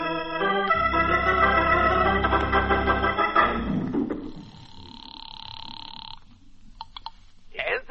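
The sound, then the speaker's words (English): A telephone in a ceramic shop rings with a steady, bright electronic tone after a burst of loud, busy music and low rumbling, followed by a few short clicks. “You got a phone here in your ceramic shop, Annabelle?”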